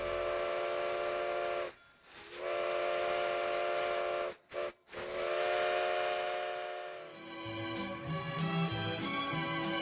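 A steam train whistle sounds in long, loud blasts broken by short gaps, then gives way to the clanking, hissing rumble of the train slowing as it pulls into the North Pole. No one speaks.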